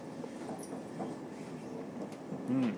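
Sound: train rolling on tracks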